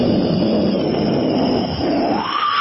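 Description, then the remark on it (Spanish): A voice imitates an airplane engine warming up, a steady, rough, breathy roar held for a couple of seconds that rises in pitch toward the end, loud. “va calentando los motores... ¿Cómo hace un avión?”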